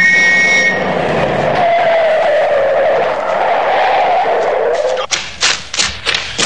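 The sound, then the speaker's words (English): At night, a speeding car passes and its tires screech in a long, sliding skid that bends downward in pitch as it pulls over on a constable's order, then ends with a few sharp thumps and bumps as it stops. “Drop that car! Pull over here!”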